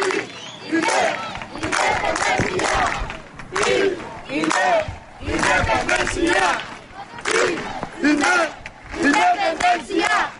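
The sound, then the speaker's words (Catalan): A large crowd of about 800 people shouts independence slogans in rhythmic bursts, voices rising together and pausing between phrases, loud and energetic throughout, at a human chain linking Móra d'Ebre and Móra la Nova across the Pont de les Arcades in Ribera d'Ebre, Catalonia. “Amb crits d'independència, unes 800 persones d'arreu dels pobles de la Ribera d'Ebre van fer possible que Móra d'Ebre i Móra la Nova s'unissin.”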